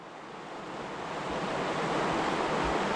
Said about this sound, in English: And we are Riverside. We're right by the St. Vrain River, as you can hear. Yeah. I'm sure, because it's pretty high right now. It's super high.